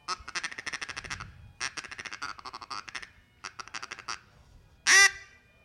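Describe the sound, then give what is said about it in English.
Rapid, rhythmic feeding chatter blown on a duck call, imitating the sound ducks make when feeding, in quick bursts of clucking notes, clear, with brief pauses between runs and a sharp louder quack near the end. “And he might throw in a little bit of feeding chatter like what duck sounds when they're feeding.”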